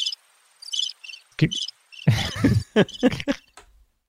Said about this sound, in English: We need some crickets or something, sound effect.